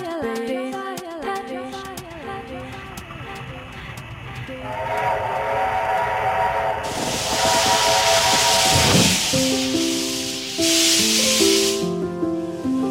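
A steam train whistles in long harmonic blasts while steam hisses loudly in bursts, building from chuffing to a sustained roar, then further whistle tones sound near the end.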